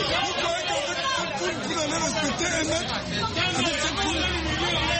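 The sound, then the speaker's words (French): Dense crowd chatter from people with food vouchers queuing outside a supermarket to collect food kits: many overlapping voices blend into a steady, loud babble with no pauses and no single speaker standing out. “Je crois que si vous allez respecter un mètre avec cette foule, vous allez arriver.”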